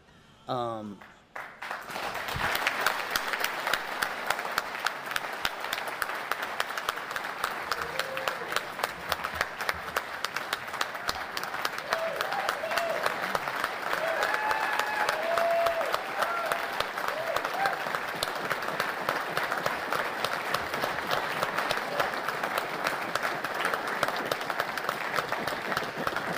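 Sustained applause from the audience at a Santa Rosa County Commission meeting for a Medal of Honor recipient, a dense, steady wash of many hands clapping that starts abruptly after a brief moment and continues strongly for about twenty-five seconds.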